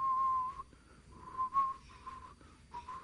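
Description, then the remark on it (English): Someone whistles a short, wavering tune in a few breathy phrases separated by brief pauses, with no talking around it. “And I remember him standing up in church on the seat, turning to the person behind him and whistling.”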